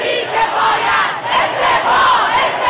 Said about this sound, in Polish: Manifestujący przed jednym z uniwersytetów w Teheranie wznosili okrzyki "Precz z duchownymi"